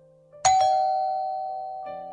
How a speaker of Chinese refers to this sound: 当曾浩按响门铃时，小梅俏皮的声音从门里传出来。